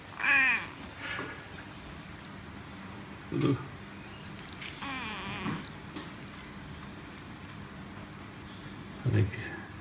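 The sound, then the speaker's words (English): A neutered male cat meows several times at irregular intervals, some calls stretching into drawn-out, wavering yowls, over a low steady background hum. “I think the cat has vaccine damage.”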